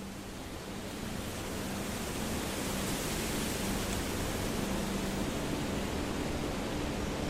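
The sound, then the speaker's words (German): A steady, dense roar of rushing water from a waterfall fills the space without pause, broad and hissing with no voices over it. “Mit dem Rauschen des Wasserfalles im Hintergrund setzt ihr nun eure Reise fort.”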